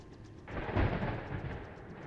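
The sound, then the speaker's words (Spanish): A sudden roll of thunder breaks in with a deep, heavy crack and then keeps rumbling steadily, loud, with no voices. “Un trueno azul brilló en el cielo.”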